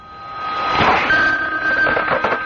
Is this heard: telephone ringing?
yes